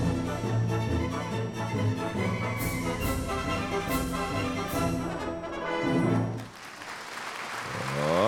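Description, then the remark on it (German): Loud orchestral music from a performance of Carmen plays for several seconds, then gives way to a dense burst of audience clapping and cheering near the end. “Das ist auch euer Applaus.”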